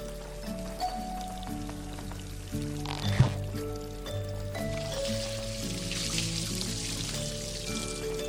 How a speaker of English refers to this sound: Water now flows from the pipe into the grumpy fungaloid's bathtub. The raised water level pushes a bottle of bubble bath over the edge.